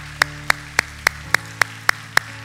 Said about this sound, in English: Come on, you. Put your hands together this morning for Jesus. Come on, Key Point Church. Come on, let's worship God with our applause.